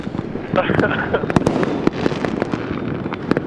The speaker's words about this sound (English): Look, here's some fireworks for you since you're going to miss out.